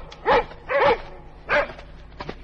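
Dogs in a village bark three times in quick succession, sharp and fairly loud, with short pauses between the barks and a few faint yips trailing off afterward, as they smell a fox and run out to chase it at the door of the first house. No one speaks.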